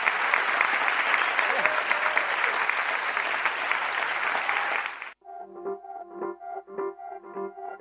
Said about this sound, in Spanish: Han animado, aplaudiendo.